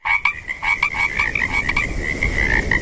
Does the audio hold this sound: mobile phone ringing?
no